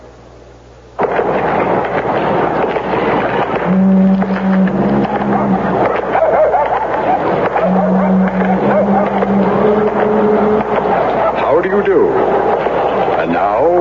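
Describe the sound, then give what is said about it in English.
A car engine starts up suddenly and runs roughly, with a loud, steady rumble and uneven sputtering hums, continuing without a break to the end; the car is one that stalls all the time. “My car seems to stall all the time.”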